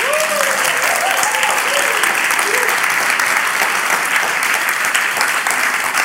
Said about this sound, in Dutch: En mijn vraag is vandaag, zitten hier echt ook vaders in de zaal? En als die in de zaal zitten, zouden die dan even willen gaan staan? Applaus voor deze mannen.